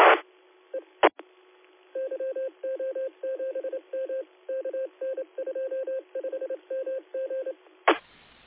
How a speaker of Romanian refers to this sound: Mulțumesc mult, uite că îmi sună un telefon.